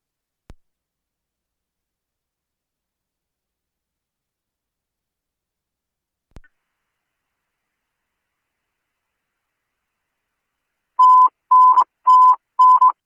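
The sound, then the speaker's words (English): A phone number associated with an address is dialed after no answer at the door: after two faint isolated clicks and a long quiet stretch, four short, loud electronic tones sound in quick succession near the end. No one speaks. “Do you have a phone number associated with this address you can call for?”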